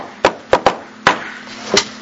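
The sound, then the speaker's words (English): Five sharp knocks on a door in an uneven pattern: a single rap, a quick pair, another single, then one more after a pause, over a faint steady hum with no talking. “And I come and knock on the door in the middle of the night and I just...”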